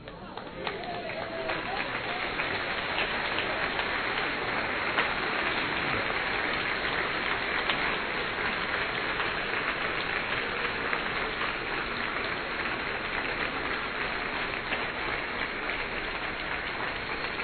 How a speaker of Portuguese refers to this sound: Deus é bom, aplauda mesmo o Senhor, porque Ele é bom.